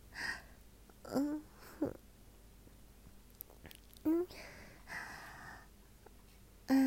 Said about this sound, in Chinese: 喘气声这么大？这么粗的喘气声，你不会是在打飞机吧？